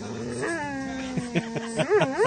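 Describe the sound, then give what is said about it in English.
A dog in the audience of an indie band concert at a garage, with 3 dogs and about 70 people present, whines and whimpers, a sustained, wavering tone that bends up and down in pitch, ending in a couple of short rising yelps, with no voices around it. “There are actually 3 dogs and about 70 people in the audience tonight.”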